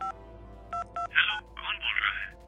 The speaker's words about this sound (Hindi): Inspector ने call logs check किए और लास्ट नंबर पे फोन डायल किया।